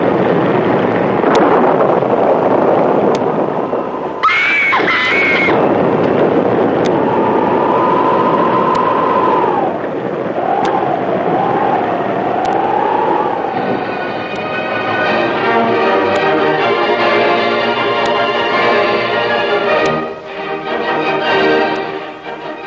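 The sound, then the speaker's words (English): A loud, constant storm roar of rushing wind and surging water as huge waves break over a storm-lashed deck at sea, with rising, wavering howls partway through and a dense, buzzing rumble building in the second half. No one speaks. “a huge wave broke over the deck and swept them into the raging seas.”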